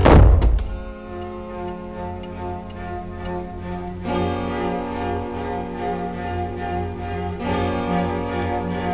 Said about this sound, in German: Etwas lauter als üblich ließ er die Tür hinter sich ins Schloss fallen.